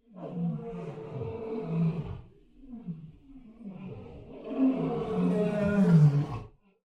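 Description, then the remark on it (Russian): An elephant calf, fallen into a clay pit with water at the bottom and slipping as it tries to climb out, bellows in distress: a long roaring call followed by lower groaning sounds, then a louder, straining cry that swells before stopping. Loud, with no voices. “Неподалеку металась слониха.”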